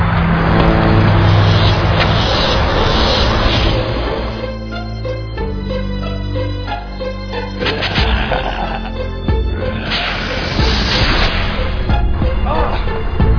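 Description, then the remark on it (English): A car engine runs loudly and steadily, its low rumble shifting pitch partway through, with faint voices underneath. “Hey, you ruined my car. Hear that?”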